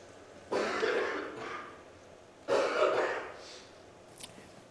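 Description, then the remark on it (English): Two hoarse, raspy coughs about two seconds apart, fairly loud, followed by a brief quiet click near the end. “Let me tell you about the city of Philippi after I cough real quick.”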